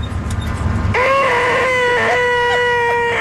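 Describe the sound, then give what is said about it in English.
A voice imitates a high-pitched car brake screech, holding one loud, shrill, steady whine for over two seconds with slight wavers, following a moment of low background rumble. “This is just a high pitch, just like when you got your hearing tested”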